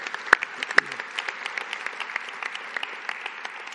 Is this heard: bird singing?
no